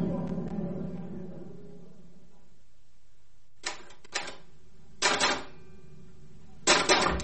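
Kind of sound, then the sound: machine, typing on a typewriter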